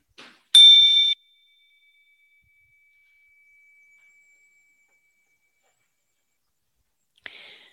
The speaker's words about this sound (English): We will now have a time of silent meditation, starting and ending with the chime.